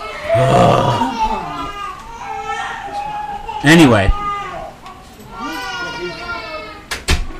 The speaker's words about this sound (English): Sounds like those babies were happy and not screaming in pain.